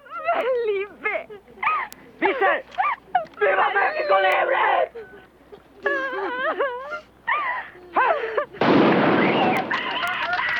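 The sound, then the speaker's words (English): A woman wails and sobs in rising, broken cries as a firing squad executes a blindfolded young Mexican prisoner stood against a station wall. A single loud, sharp gunshot volley cracks out, and the anguished crying carries on after it. “Shot through the heart, he slithers down the wall, leaving a trail of blood behind him.”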